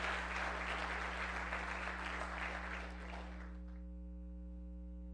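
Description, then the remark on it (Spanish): An audience applauds God in a dense wash of clapping for about three seconds, then it fades out, leaving a steady low electrical hum with faint tonal whine. “Dele un aplauso a Dios.”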